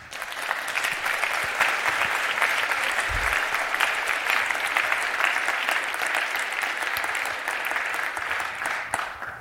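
Sustained audience applause welcoming the speakers of a talk on European border surveillance technology, a dense and steady wash of many hands clapping at an even loudness for several seconds, with no voices breaking through.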